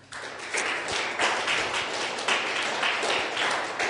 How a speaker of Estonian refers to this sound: Halleluja. See oli küll imeline. Teeme ühe aplausi ülistajatele.